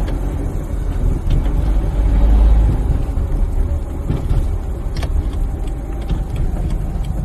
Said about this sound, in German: Also setze ich mich in mein Auto und fahre zu der angegebenen Adresse.